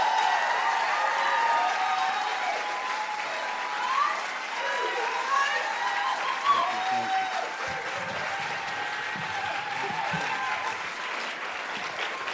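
Sustained audience applause, a steady wash of clapping hands that holds at an even, fairly loud level for several seconds, with some indistinct crowd noise mixed in.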